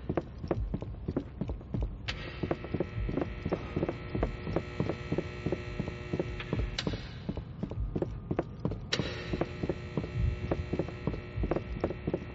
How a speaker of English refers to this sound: No, I just hear footsteps, but I can't tell how close they are.